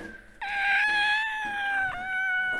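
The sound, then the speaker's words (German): A small, black, fluffy kitten lying on a basement shelf among paint bottles and paper gives one long, high-pitched meow that holds steady for about two seconds, wavering briefly near the end, loud with nothing else around it. “Ohne weiter nachzudenken, nahm sie das miauende Paket aus dem Regal.”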